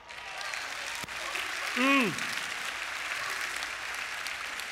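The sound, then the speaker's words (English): Steady applause from an audience, with a loud, barking Marine Corps hoorah-style cheer shouted over it midway, its pitch rising and then dropping. “You hear those barks?”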